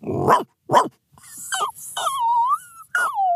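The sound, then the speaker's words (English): A man imitates a dog: two quick, sharp barks, then a run of high, wavering whines and yelps, with no other talking. “has some pretty awesome dog impressions in his toolkit.”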